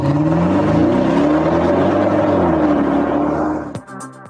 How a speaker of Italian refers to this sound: Ma che bel momento quando i motori di Motori e dintorni ruggiscono così e ci annunciano che siamo a metà settimana